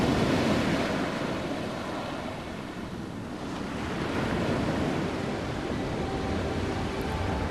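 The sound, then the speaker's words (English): Steady ocean surf rolls and washes onto a beach continuously, a broad roaring hiss that swells and eases slightly, with some wind rushing over it and no voices. “The sea, the hot coconut oil slick beachgoers shrieking at the ever approaching wave.”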